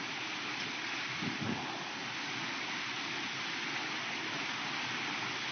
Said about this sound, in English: Yes, honey, do you hear the rain? It's getting heavier and heavier.